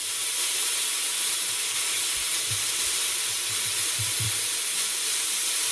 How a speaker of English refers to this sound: Mother Nature's healing ultrasound. This first part is the waterfall.